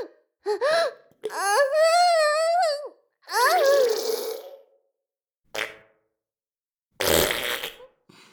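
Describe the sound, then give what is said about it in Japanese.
Several fart sounds from a maid break out one after another, a short one and then a louder, buzzy blast, between drawn-out high-pitched moaning and gasping vocal sounds as she twitches, all fairly loud. “かわいい声でビクンビクンしながらおならの連発。”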